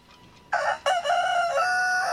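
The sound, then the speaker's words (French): A rooster crows loudly, a bright harmonic call that starts abruptly, breaks briefly, then continues in one long sustained cock-a-doodle-doo, with no one speaking. “Et pour notre traditionnel Cocorico, j'ai tenu à mettre à l'honneur un groupe de black metal, puisque en 95 en France, eh ben, il n'y en avait pas beaucoup.”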